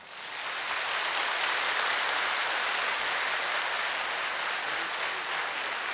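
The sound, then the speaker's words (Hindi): A crowd claps steadily for several seconds, a dense, continuous wash of many hands at fairly even loudness with no one speaking over it. “सबसे हेलो करो ना, हेलो करो ना, कोई ताली बजाओ।”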